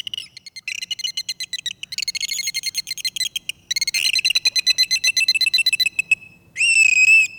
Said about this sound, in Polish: Tak jak my ludzie rozpoznajemy się po tonie głosu, po sposobie wymowy, tak samo delfiny rozpoznają siebie nawzajem właśnie po tych specyficznych różnych gwizdach, klikach, wszystkich sygnałach, których używają.